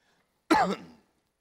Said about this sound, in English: I got a little bit of a nagging, little dry cough this morning, so bear with me if you will.